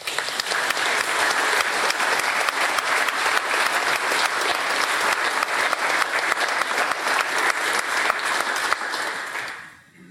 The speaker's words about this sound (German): Und ich mag es, wenn in dieser Kirche geklatscht wird, weil das so viel Lebendigkeit hat. Und ich glaube, für die schöne und besondere musikalische Begleitung lohnt es sich, wenn wir zum Abschluss jetzt mit unserem Klatschen noch einmal Danke sagen.